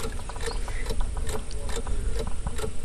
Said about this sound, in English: Today the filtering device is malfunctioning a little and its motor starts to sound ironically like a ticking clock.